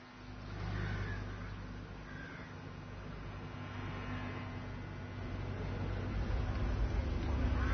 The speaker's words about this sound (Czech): U ovim trenucima stižu automobili u kojima je rukovodstvo vežbe, obično to tako bude, oni dolaze do bine.